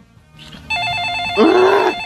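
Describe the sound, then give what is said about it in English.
A telephone rings with a steady electronic trill, loud and clear against quiet background noise, with no one speaking, before Luther answers the phone. “Nora goes back to her packing as Luther answers the phone.”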